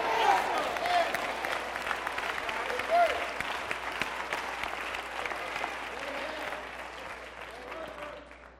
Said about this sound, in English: It's not enough of hand claps. A little 5 or 6.